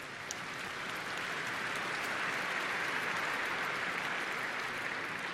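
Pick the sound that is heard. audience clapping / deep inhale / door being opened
audience clapping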